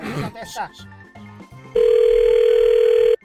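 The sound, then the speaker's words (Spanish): A phone line rings on an outgoing call: after a few brief low beeps and some voices, one loud, steady electronic tone holds for over a second, then cuts off. “Ya le estamos marcando, ¿sí escuchas?”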